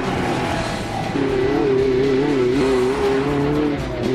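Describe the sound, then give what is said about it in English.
Loud off-road race car engines roar and whine continuously during an off-road race in the Mojave Desert, with a sustained rising and wavering engine tone and gritty rumble, as the vehicles drive by with no talking. “This is the Mojave Desert. It's huge and quiet. Unless there's an off-road race.”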